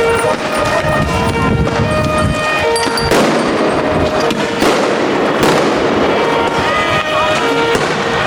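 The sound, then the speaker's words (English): Loud fireworks crackle and bang in rapid, irregular bursts over a dense, noisy outdoor din at a street protest, with crowd voices shouting underneath throughout. “The fireworks are our weapons, so we have fireworks and the army has bullets.”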